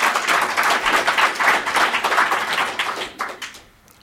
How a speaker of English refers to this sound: It wouldn't hurt if more than four of you clap. Let's try it one more time.